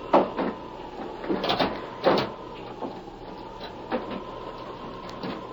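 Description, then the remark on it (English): A wooden door of a house is worked open with a series of knocks, bumps and creaks, irregularly spaced, over a steady low whooshing of wind and no talking. “Wait till I close this door.”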